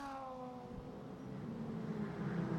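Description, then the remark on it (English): A race car's straight-cut gearbox whines in shifting high tones over the lower drone of its flat-six engine during an IMSA sports car race, a steady mechanical sound that grows slightly louder, with no one talking. “Actually, you can probably more hear the straight cut gears from the gearbox than the flat six engine.”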